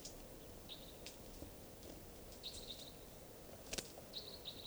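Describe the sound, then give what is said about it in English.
Faint song of a wild bird at 2:40 p.m., song type 2: several short, thin, high-pitched trilled phrases repeat at irregular intervals over a steady low rumble, with a few sharp clicks between them. “It sounds like a wild bird around here somewhere at 2:40 p.m. Song.”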